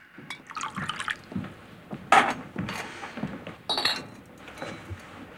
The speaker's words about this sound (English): Brad leaves the table, then goes to find Greg, who's pouring himself a large whiskey from a decanter.